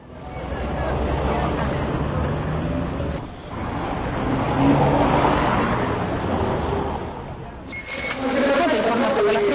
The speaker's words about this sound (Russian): Отсюда мы пойдем на площадь Республики, к фонтану Наяд, где звук падающей воды так по-римски смешивается с транспортным гулом большого города.